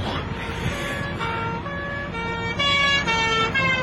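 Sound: police car siren passing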